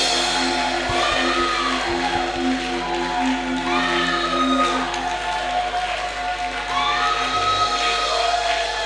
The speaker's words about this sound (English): Can I hear you shout, those to my right? Can I hear you shout, those to my right? Shout and clap your hands to God's glory.